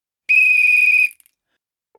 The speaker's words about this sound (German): Pia pfeift auf einer kleinen Trillerpfeife. Abfahrt!